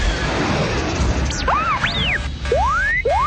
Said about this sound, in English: Before Corrin could punch the throttle forward, something hit his low port stabilizer and detonated.